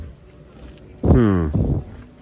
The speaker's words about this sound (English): Is this one of those boats that takes people? Is it a ferry? What's this thing? I want to know. Is this a ferry? What the hell is it? Well, it is a ferry. But where is it taking people?